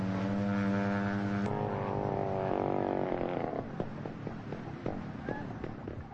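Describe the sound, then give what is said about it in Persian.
A propeller plane's engine drones steadily, then falters and sputters into uneven coughs and pops before cutting out, apparently out of fuel, leaving only scattered faint knocks and noise. “انگار بنزین تموم کرده و موتور از کار افتاده.”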